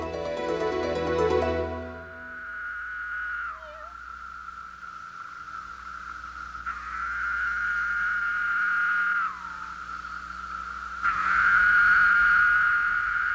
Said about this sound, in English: Whose shrill sound woke Ada? A cicada! The loud buzzing Ada heard was a male cicada singing for a mate. He makes the sound by vibrating. And when a female cicada hears him, she wants to check him out.